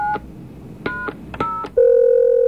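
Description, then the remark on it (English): Touch-tone keypad beeps as a phone fantasy line number from an ad is dialed, a quick irregular run of about six short dual-tone presses, followed by a steady, louder ringing tone on the line. “Just dial 1-976. I'll just give this number a try.”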